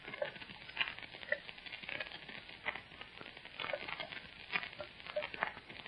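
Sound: water dripping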